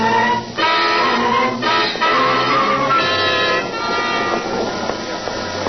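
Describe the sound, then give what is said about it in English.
A passenger train running on rails, a loud steady rumble threaded with sustained whining, horn-like tones. The roar dips briefly near the start, then continues unbroken with no voices. “Well, we walked through all the cars. I couldn't find any of the other witnesses, not even the conductor.”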